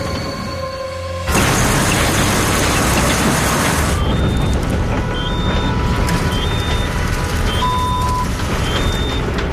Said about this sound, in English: Engine temperature's running hot. This road pulls hard. Soft roads, heavy weight, really works this engine.